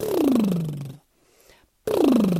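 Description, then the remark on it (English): Two buzzy voiced lip trills, a vocal exercise called buzzing made by blowing air through the lips with voice behind it, like a horse's snort, each sliding downward in pitch for about a second, separated by a brief near-silent pause with only faint breath. “It's a little bit like making the sound a horse makes. You're blowing air through your lips, but you're putting voice behind it.”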